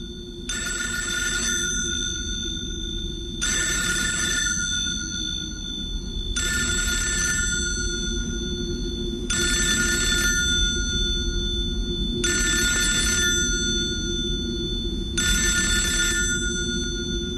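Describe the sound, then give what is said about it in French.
A telephone rings six times in a steady, evenly spaced pattern, each bright jangling burst lasting about a second, over a low continuous rumble with no one speaking. “Il fallait pas répondre au téléphone, c'est ça?”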